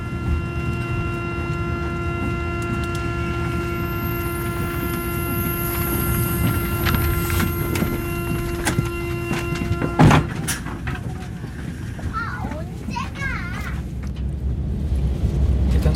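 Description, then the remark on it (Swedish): A train pulls away and rolls along, its steady low rumble and droning tones filling the space, with a sharp clunk midway and rattling carriage noises as it picks up speed. “Som går genom huvudet när det tågresan.”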